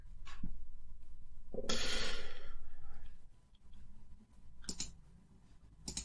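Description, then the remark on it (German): A few sharp, isolated clicks of a computer mouse as someone clicks through the internet, spaced irregularly over several seconds, with a breathy exhale or sigh in the middle and no talking. “Klickst du dich gerade irgendwie durchs Internet oder?”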